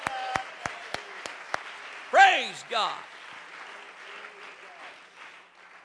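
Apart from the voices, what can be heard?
audience clapping hands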